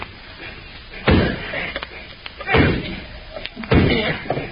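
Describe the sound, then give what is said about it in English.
A hammer drives a chisel against a lock, with burlap over it to keep it quiet, in three heavy, muffled whacks spaced about a second apart, with a few lighter metallic taps and scrapes between blows. “Yeah, it's starting to give. A couple more whacks will do it.”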